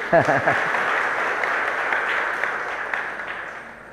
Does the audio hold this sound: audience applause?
yes